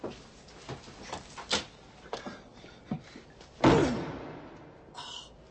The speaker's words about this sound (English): It's a door, isn't it?